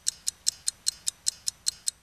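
A pocket watch ticks quickly and steadily, about five crisp, high, light clicks per second, heard alone and fairly quiet over a faint low background hum.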